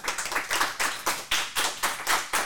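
A small group claps together for school pupils' cross-country race results, giving a short burst of brisk, fairly loud applause with individual hand claps overlapping in a steady, rapid rhythm. No one speaks.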